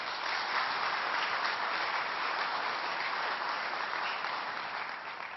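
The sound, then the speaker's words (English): A church audience applauds steadily for several seconds to congratulate a member on a very special birthday, a dense, even wash of many hands clapping at a constant loud level that tapers slightly at the end, with no voices heard. “I think you could give her a round of applause.”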